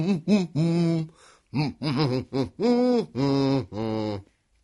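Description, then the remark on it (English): A single voice hums a short, simple tune in a series of sustained notes that rise and fall in pitch, with brief pauses between phrases. “And if you can't whistle, maybe you can hum.”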